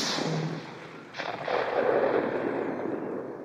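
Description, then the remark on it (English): A single sharp rifle shot, fired as Queen Elizabeth II stepped from her motorcade at Otago Museum Reserve before a crowd of about 3,500, cracks out after a moment of steady hiss, followed by a sustained, broad roar of noise that swells and lingers to the end. “I heard this rifle shot, and it was clearly a rifle shot, and it came from over my right shoulder.”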